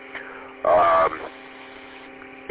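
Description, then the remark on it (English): Steady hiss of white noise from a radio receiver turned low on a dead, quiet channel, with an underlying electrical hum, broken by one louder, brief burst of crackling noise partway through before settling back to the quiet drone. “Just white noise is all I'm getting, so, yeah.”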